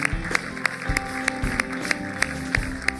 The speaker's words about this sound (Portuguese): Será que podemos dar uma salva de palmas a todos eles e a todos os nossos voluntários que tudo fazem pela nossa igreja?